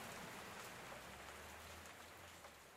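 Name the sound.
rain falling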